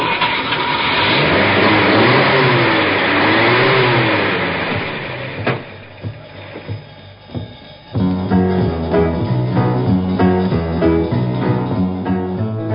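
A car engine roars and revs loudly, its pitch climbing and dropping a few times as it pulls away, then cuts off with a sharp thud before music begins.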